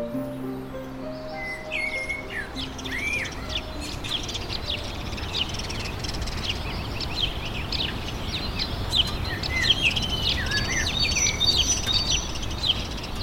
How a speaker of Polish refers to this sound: A u ciebie co to? Wiosna w środku zimy. Skąd i gdzie te ptaki? Słucham sobie ich z płyty.